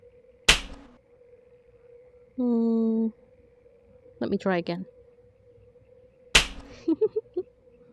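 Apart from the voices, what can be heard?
slaps on skin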